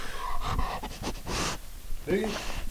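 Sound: dog panting heavily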